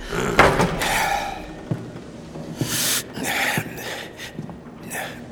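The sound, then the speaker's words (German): A door bangs shut among several sharp knocks and bursts of rustling, with short thuds spaced through the moment and no one speaking. “Und jetzt raus hier. Schon gut, schon gut. Tür zu.”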